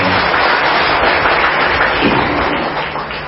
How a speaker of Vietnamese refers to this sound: Xin thưa với các vị, hôm nay là các vị có cảm thấy vui không? Vui cho xin cho chàng pháo tay đi.